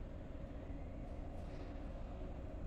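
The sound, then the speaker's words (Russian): A steady, deep rumble of a train carriage rolling along the rails, heard from inside, constant and fairly loud with no voices, on a line where traffic has been disrupted by snowfall. “Наш поезд делает короткую остановку.”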